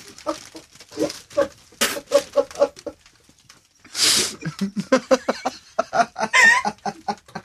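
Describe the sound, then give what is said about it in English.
A loft of 20 male racing pigeons makes rapid, overlapping coos and throaty calls, fairly loud, with a couple of sudden bursts of flapping wings. “At this moment, I'm looking at 20 cocks in front of me.”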